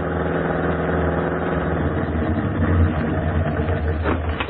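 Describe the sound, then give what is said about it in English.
The engine of a new Red Cross Motor Corps car, used to drop observers off at the Cat Canyon Post, idles steadily, a low, rumbling hum with a constant throbbing pulse that holds level throughout, with no voices over it. “Hey, this the new car they're hauling us around in?”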